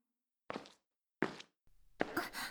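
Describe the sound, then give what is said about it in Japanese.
Three slow, separate footsteps of a woman on a hard surface, each a crisp scuffing tap, with a low rumble before the last one; the steps grow slightly louder as they approach. No one speaks. “人の足音が聞こえました。”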